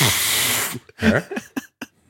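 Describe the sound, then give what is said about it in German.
A person imitates a fart with their mouth: a long, steady breathy hiss, then a string of short, uneven sputtering bursts that trail off into quieter puffs. “Wie macht man das, dieses Pups?”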